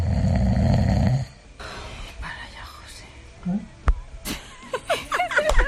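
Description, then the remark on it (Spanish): A radio listener lets out one loud, rumbling snore, followed by quieter breathy rustling and then voices talking and chuckling. “En fin, los ronquidos de los oyentes.”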